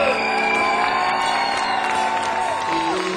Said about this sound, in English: Our French guitar hero. Give a big applause to the lead guitarist